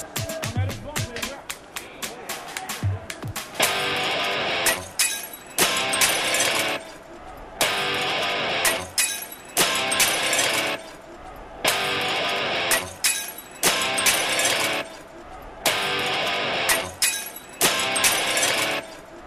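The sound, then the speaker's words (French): Glass bottles clink and clatter in repeated bursts as they are collected during a street procession, sharp bright knocks piling on top of each other, with a steady murmur of voices underneath. “Là, on évite de laisser des bouteilles de verre traîner.”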